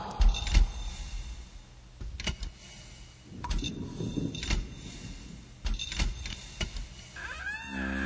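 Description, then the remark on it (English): Heavy metallic clanks and rattles of a prison door being unlocked, then a grinding, scraping slide as it opens, with a few sharp knocks in between and no voices. “I thought I never again would hear that door open.”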